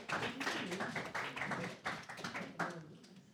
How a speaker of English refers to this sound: Thank you guys for standing up here. You did an excellent job, all of you. We can clap for them. Look at that.